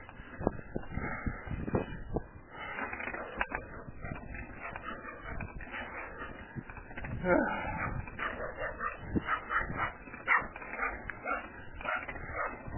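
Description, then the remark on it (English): A dog behind a fence barks in short yips and whimpers restlessly, the sounds coming in quick irregular bursts, with faint talking mixed in the background. “You're behind the fence. There's a few. And that's one.”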